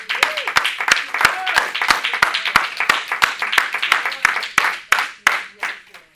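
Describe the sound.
A crowd claps hands together as a clap offering to the Lord, in a steady, fairly quick rhythm, sharp loud claps riding over a dense wash of scattered applause and murmuring voices, thinning out toward the end.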